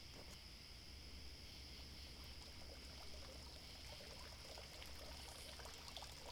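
A water fountain pours and trickles steadily, a continuous splashing wash with faint dribbling detail, even in level throughout, with no one speaking.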